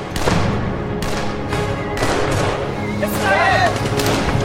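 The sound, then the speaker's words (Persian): Repeated gunshots crack out in a dense, irregular volley as Russian soldiers who have got off trucks fire while advancing toward people, against a loud, chaotic background with some shouting voices mixed in, sounding intense. “سربازا همینطوری که تیراندازی میکنن میرن سمت مردم.”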